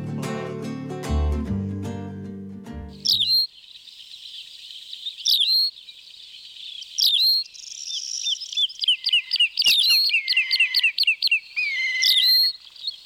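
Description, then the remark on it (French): A brief burst of low musical tones gives way to clear birdsong: bright whistled phrases and rapid trills repeating against a quiet background for about ten seconds. “Mais s'il chante, c'est bon signe.”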